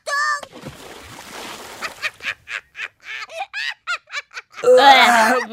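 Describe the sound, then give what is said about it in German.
A burst of water splashes onto a person with a wet, spraying rush, followed by a rapid series of short, high squeals and yelps, ending in a loud shriek. “Da bespritzen sich die Menschen mit Wasser”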